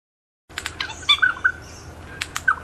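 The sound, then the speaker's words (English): A regent honeyeater, a critically endangered Australian bird, calls in a quick series of clear, metallic chirps and warbling notes, some with sharp upward sweeps, distinct over a faint low background hum. “The Regent Honeyeater is one of Australia's most critically endangered birds”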